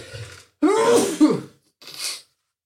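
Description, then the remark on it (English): A single sneeze: a short voiced build-up breaks into a loud breathy burst, followed a moment later by a brief, softer hissing breath or sniff. “Sorry, I'm going to sneeze.”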